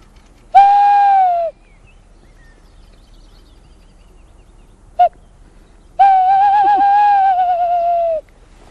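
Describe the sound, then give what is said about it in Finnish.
A person imitates a male tawny owl's typical three-part courtship hoot: a long steady hoot, a long pause, a short clipped note, then a drawn-out wavering hoot. Loud, with no other sounds. “No miten ne lehtopöllöt esimerkiksi huutelee? Osaatko tästä vetästä lehtopöllöä?”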